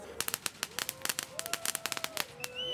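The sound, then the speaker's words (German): A rapid string of sharp firecracker bangs pops off in an irregular burst lasting a few seconds, with a faint whistling tone rising beneath the cracks: a firecracker lit by a performer who briefly opens a door during a stage performance, in place of a New Year's Eve celebration. “Nur kurz öffnet sie auch die Tür, um den bevorstehenden Ausfall der großen Silvestersause mit der Zündung eines Böllers zu kompensieren.”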